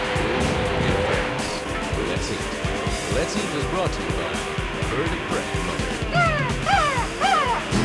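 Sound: black bird cawing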